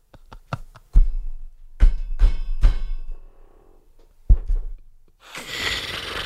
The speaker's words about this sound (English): Is that a power drill?